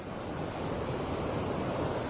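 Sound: ocean waves and surf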